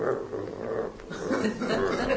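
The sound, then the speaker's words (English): A person imitates the low, rumbling half growl a hungry predator makes while stalking prey, kept not too loud so as not to scare the prey away: a steady throaty grumble lasting about two seconds, moderately loud with no other speech. “They kind of, when they're hungry, they kind of half growl. They kind of go.”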